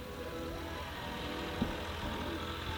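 A loud tractor engine drones steadily, a continuous low rumble with a rough mechanical hum that holds at a constant level throughout, with no voices.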